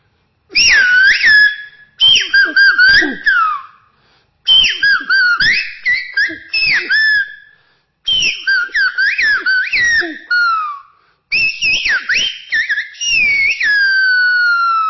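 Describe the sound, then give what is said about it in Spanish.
A single person whistles in Silbo whistled language, rendering the last stanza of Pedro García Cabrera's poem about the silbo: sliding melodic phrases grouped into four or five bursts separated by brief pauses, loud, with no spoken voice. “He escogido la última estrofa del poema del silbo de nuestro ilustre poeta universal, Pedro García Cabrera, que dice: y ahora silba más hondo, silba más alto y sin tregua.”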